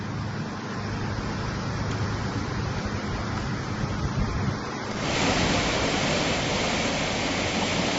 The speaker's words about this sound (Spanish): Este era el sonido esta mañana del viento azotando y duro en los grandes árboles de la Alameda o del agua bajando a toda velocidad por la fervenza de Concho, consecuencia de un temporal que ha dejado rachas de 115 kilómetros por hora en Carnota,